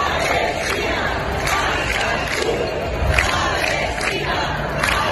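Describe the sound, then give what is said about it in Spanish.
A large crowd of protesters with Palestinian flags chants pro-Palestine slogans such as "liberad a Palestina" in unison in front of the Kursaal before a gala, a dense roar of many voices with rhythmic rising surges, steady and loud throughout. “Palestina, Ascatú, liberad a Palestina, es lo que gritan.”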